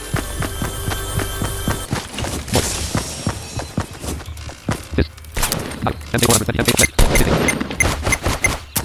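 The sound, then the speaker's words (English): Video game gunfire from the default gun crackles in rapid, uneven bursts of sharp shots, starting after a low rumble and growing denser and louder toward the end. “Default gun sucks so much ass.”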